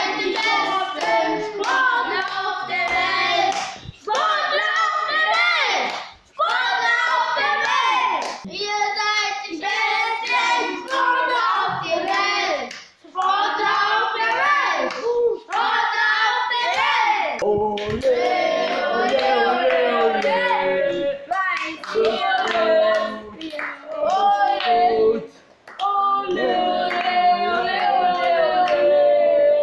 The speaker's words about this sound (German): So, liebe Christophorus-Schule, und jetzt feuern wir alle gemeinsam unsere Sportler von hier aus an. Und los geht's!